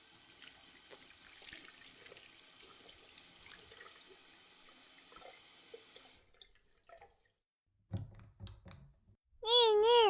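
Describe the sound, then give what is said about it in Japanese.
A tap runs steadily while hands are lathered with soap and scrubbed under it, including between the fingers. The water shuts off after about six seconds, followed by brief handling noises and a loud cat meow at the end. “お手て泡をして、よいしょよいしょ、指の間もね、ゴシゴシってしなきゃいけないのよ。”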